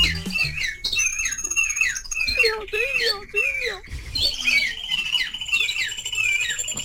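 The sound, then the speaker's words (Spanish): A cockatiel squawks loudly and almost nonstop, with harsh, rising and falling calls crowding one after another for several seconds, with no voices in between. “Y este es el loro pidiendo auxilio.”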